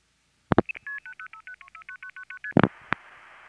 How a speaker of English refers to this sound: This is what the dialing portion of the call sounds like. In the other examples, I'll skip this and cut right to the call going through.